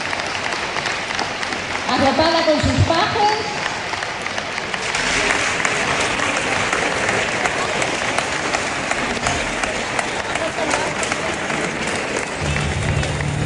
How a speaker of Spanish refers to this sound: Un aplauso.